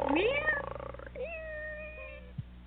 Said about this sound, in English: Meow. Meow. Meow.